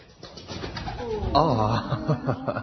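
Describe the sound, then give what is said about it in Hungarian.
A pigeon, brought as a gift, escapes from a box amid a burst of rustling, followed by throaty cooing that wavers up and down for a couple of seconds at moderate loudness. “Az ajándék elszállt, úgyhogy nem is ajándék.”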